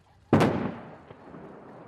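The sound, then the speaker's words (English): At North Korea's nuclear test site, explosives strung up in a test tunnel set off a sudden, powerful explosion that booms out and rolls away in a long, rumbling decay, followed about a second later by a fainter secondary blast. No one speaks. “With a series of large explosions, blast! North Korea claims it destroyed its once-treasured testing grounds, used since 2006 to build increasingly powerful nuclear weapons.”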